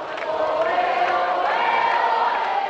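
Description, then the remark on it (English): A large crowd of children wearing the Vatican colors, white and yellow, cheers continuously to welcome the Pope in Spain, a dense, high-pitched wash of voices at steady loudness with no pauses. “A large crowd of cheering children wearing the Vatican colors, white and yellow, welcome the Pope.”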